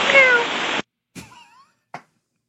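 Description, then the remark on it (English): A voice imitates a cat, meowing twice over a crackly, band-limited aviation radio channel, on the frequency pilots use to talk to an airport control tower; a burst of static leads in, then a drawn-out meow and a short clipped one. “Meow, meow,”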